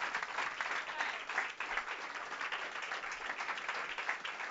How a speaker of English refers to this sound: Put your hands together for Jesus. Praise the name of God. Can we just give a round of applause again for the grace of God